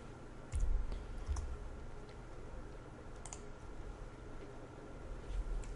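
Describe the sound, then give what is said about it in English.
A few scattered keyboard key presses, soft sharp clicks spaced irregularly across several seconds over a quiet low hum, as the number 3 and Enter are pressed while running an application, with no one speaking. “So let's run the application, and this time I'm going to hit the number 3 and hit enter on my keyboard.”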